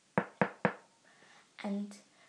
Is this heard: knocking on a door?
yes